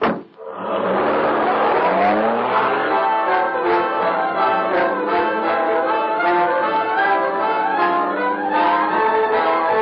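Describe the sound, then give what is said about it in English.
A car engine roars, revving hard with rising and falling pitch as the vehicle pulls away, then drones on loudly and steadily with no voices. “every time we make a trip, our lives depend on this car.”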